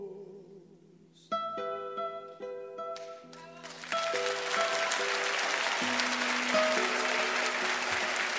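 Audience applause swells in as a song ends, a dense, steady wash of clapping that grows louder and continues to the end, with sustained instrumental notes still ringing beneath it.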